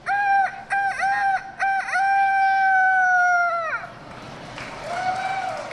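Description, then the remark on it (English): A child's voice imitates a rooster's crow at the Youth Rooster Crowing Contest at the Iowa State Fair: a few choppy opening bursts, then a long, loud, sustained cock-a-doodle-doo, followed by a fainter, shorter crow attempt near the end. “Dozens of kids fidget and whisper as they wait for their turn at the Youth Rooster Crowing Contest.”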